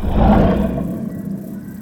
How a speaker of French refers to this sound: Mais le lion refuse et il continue de rugir et de tourner en rond. Avec un bruit comme ça, Moussa ne s'endort pas.